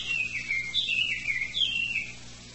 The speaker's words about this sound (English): And maybe our little bird friend will meditate with us.